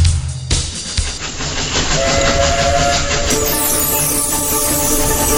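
A steam train on the Isle of Wight Steam Railway runs through winter countryside on a 10-mile round trip, loud and steady, with rhythmic chuffing and rattling wheels, and a long whistle-like tone sounding partway through. No one speaks.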